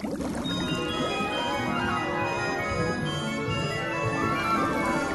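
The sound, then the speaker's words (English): Running water pours steadily, a continuous hissing splash like a shower that stays even in volume throughout, with no voices. “Well, I just finished my shower, and I guess I'm ready for a dip.”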